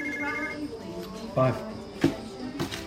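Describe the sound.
A mobile phone rings briefly with a short tonal burst at the start, fairly quiet, ignored by its owner during a card game, followed by a few muffled thumps and murmuring voices.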